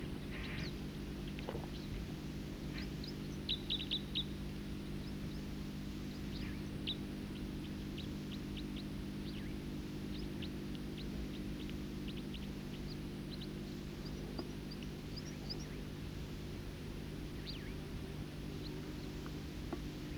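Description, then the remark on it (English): Songbirds give scattered, high-pitched chirps and short calls, with a brief cluster early on, all faint above a loud, steady low droning hum that fills the whole recording. “These are those songsters again.”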